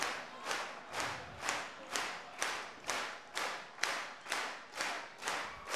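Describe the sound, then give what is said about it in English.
An audience claps in unison, a steady rhythmic beat of about a dozen loud, crisp claps at an even tempo, with no voices on top. “I see don't someone not clapping!”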